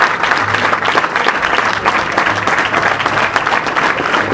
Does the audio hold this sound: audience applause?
yes